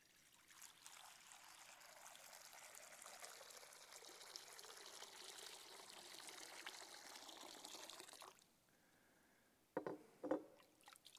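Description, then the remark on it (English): Water pours steadily into a baptismal font for about eight seconds, a continuous rushing trickle, then stops; after a brief quiet pause, a couple of small splashes follow. “And even as we put our hands in this water to remember our baptisms and be thankful, we proclaim that we belong to you.”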